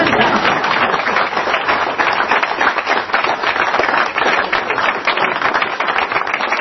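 An audience at a restaurant clapping steadily, a dense wash of many hands that stays loud and even for several seconds with no talking over it.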